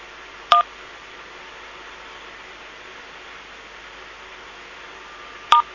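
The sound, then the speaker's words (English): Two short telephone keypad tones, one near the start and one near the end, separated by about five seconds of steady low hiss, with no talking, as a phone number is entered to dial out from a conference call line. “Please enter the phone number you wish to dial, followed by the pound or hash sign, or press star to cancel.”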